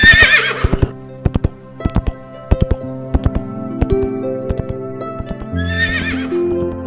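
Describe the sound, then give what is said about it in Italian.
A magnificent winged horse with a snow-white coat and long mane gives a loud, quavering whinny, then hooves clip-clop in a steady trot before a second neigh rings out near the end, all over a low sustained musical drone. “Bellerofonte seguì la corsa del cavallo nell'aria.”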